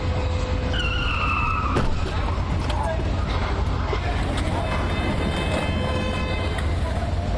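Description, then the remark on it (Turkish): A city bus in Saint Petersburg skids as its driver loses control while turning, with a short, high tire squeal in the first seconds, over a constant loud rumble of engine and street traffic, with indistinct voices mixed in. “Belediye otobüsünün şoförü dönüş yaparken direksiyon hakimiyetini kaybetti.”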